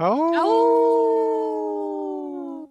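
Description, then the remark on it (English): Human voices on a radio show imitate a wolf howl: a quick rising swoop that settles into one long, steady, loud tone, held for a couple of seconds and tapering slightly before cutting off. “Did you howl with us?”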